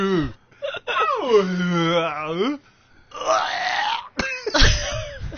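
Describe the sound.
A voice imitates a whale, making a long, wavering low moan that bends up and down in pitch, followed by a breathier groaning call and a short rough grunt, with no actual words.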